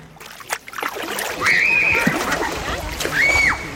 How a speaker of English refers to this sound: Children splash in a lake not far from the village,